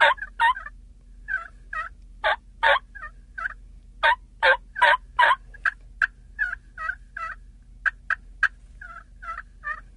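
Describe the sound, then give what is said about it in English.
A zinc turkey mouth call imitates soft tree yelps: short, clipped notes in loose bursts with brief pauses, moderately loud, with no talking. “Now, that call there was a zinc mouth call.”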